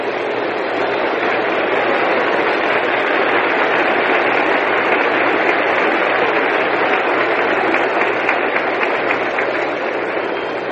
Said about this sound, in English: Here's a big hand for Claude Passeau.